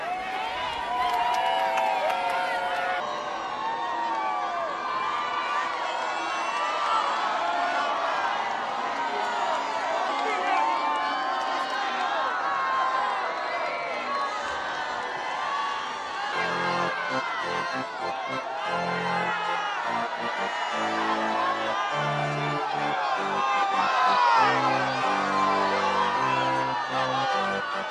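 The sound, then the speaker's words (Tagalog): A large outdoor crowd of thousands in St. Peter's Square, Vatican, cheers and shouts for Pope Francis before his speech, a dense wash of many voices whooping and calling out, loud and sustained throughout with a steady roar of overlapping cries. “Sa kabila ng St. Peter's Square, ang mga tao ay sumisigaw”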